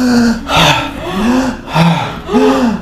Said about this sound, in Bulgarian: Дишай го този страх. Дишай го дълбоко, дълбоко, дълбоко, дълбоко. Разшири. Разшири дишането.